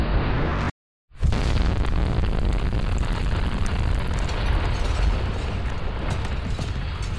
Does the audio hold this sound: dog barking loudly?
no